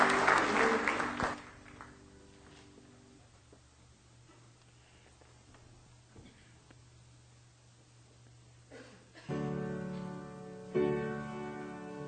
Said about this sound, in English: Give the Lord a hand clap of praise tonight as you're seated.